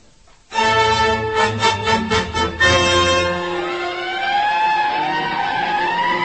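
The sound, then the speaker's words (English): Fire engines evacuating from Latigo Canyon during a wildfire rumble with a loud horn blast and deep engine roar, then a wailing siren rises and falls as the trucks pull away, the siren sweeping steadily over continuous vehicle noise. “The engines are evacuating now.”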